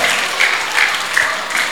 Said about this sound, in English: Oh! Clap for her.